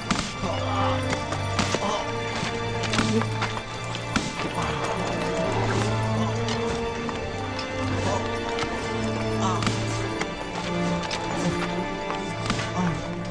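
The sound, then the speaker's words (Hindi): Sharp whip lashes crack repeatedly at an irregular pace, loud, over a busy, crowded background with a steady low droning hum and scattered thuds, as a person is being whipped. “बस करो, अब अगर कोड़ा भी इजार सिर को मजीद मारा तो हम में से कोई भी काम नहीं करेगा।”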